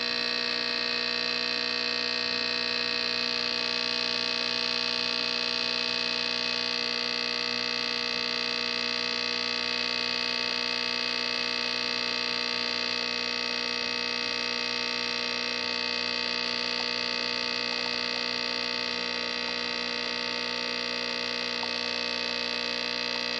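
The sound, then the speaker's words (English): A steady electric hum from an espresso machine warming up and brewing drones on continuously with no break, fairly loud, with faint trickling barely rising above it as the espresso starts to pour into the cup. “I don't know if you can hear over the humming, but it actually is starting to pour into the cup, too.”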